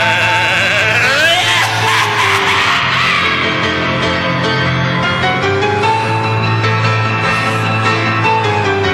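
Sheep bleat with quavering, wavering cries over a loud, dense bed of continuous music, the bleats most noticeable near the start before blending into the steady backing sound.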